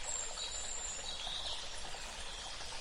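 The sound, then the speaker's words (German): A river flows quietly with a soft, steady rushing and faint trickling, continuous and even throughout with no voices, at a low level. “Schön, wie die Tour so ruhig und still vor sich hinfließt.”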